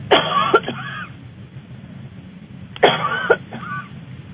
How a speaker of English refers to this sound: Cough again, I'm going to look at your left lung.